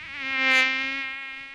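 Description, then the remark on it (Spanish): The high, thin whine of a dengue-transmitting mosquito drones steadily for a second and a half, swelling louder as if passing by, then easing slightly, with no voices. “El mosquito que transmite el dengue vive en el agua clara que parece limpia y se junta en las gomas, los tachos, los aljibes, cacharros, chapas acanaladas que juntan agua, tanques de agua sin tapa y floreros.”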